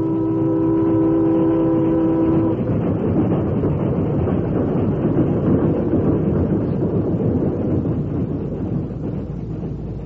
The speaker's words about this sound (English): you saw the train pass as you wanted to.